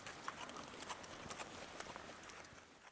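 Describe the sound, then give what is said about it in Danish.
Horse hooves clip-clop in a steady walking rhythm while the horse is ridden on Samsø, moderately loud, over constant outdoor background noise with no talking. “og så kan I finde ud af, hvordan at I også kan komme til at prøve at ride en hest her på Samsø.”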